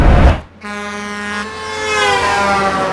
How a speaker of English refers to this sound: What the? Those rude drivers banging their horns jolted me off the brain train and right back to the bus stop.